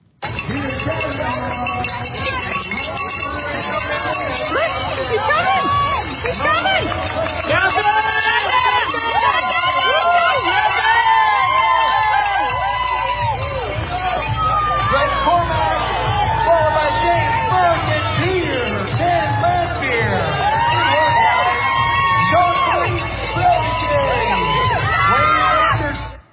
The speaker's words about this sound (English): 1.2 mile swim, 56 mile bike ride, and 13 mile run. And here he is at the finish line as they're cheering him on.